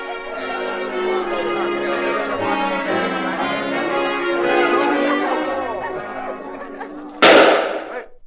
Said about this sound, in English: What was that? A shot. It couldn't have been. That's just a backfire from an automobile. I'm sure it was a shot. It came from the library.